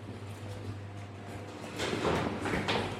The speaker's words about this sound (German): Der hält mir gerade die Türe auf. Wir gehen hinein und gehen die Stiegen runter, hätte ich gesagt, oder?